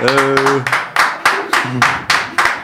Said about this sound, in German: So, jetzt müssen wir die Klatsche stoppen, weil sonst die hier zerbröselt fast das Mikrofon hier von diesem Sound.